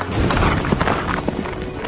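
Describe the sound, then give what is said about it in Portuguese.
A dense, rumbling clatter of many hooves and rolling wheels, like chariots pulled by many horses charging into battle at a gallop, loud, with rapid uneven thuds running through a steady roar. “As suas couraças eram parecidas com couraças de ferro, e o barulho das suas asas era como o barulho de carros puxados por muitos cavalos quando correm para a batalha.”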